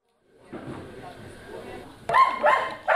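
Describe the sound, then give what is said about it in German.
An excited sniffer dog, trained to sniff out Covid-19, barks and yips in sharp bursts inside the terminal building at Helsinki Airport during a press presentation, with a busy indoor murmur behind, the loudest yelps arriving in quick pairs toward the end. “Wie die Hunde ausgebildet worden sind und wie sie Covid-19 erschnüffeln sollen”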